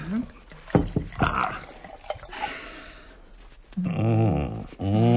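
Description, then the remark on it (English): Liquid glugs and splashes as wine is poured from a bottle at the start of a meal, a soft gurgling stream between moments of people talking, with a few clinks and drips early on. “We'll start the ball rolling with this bottle of wine.”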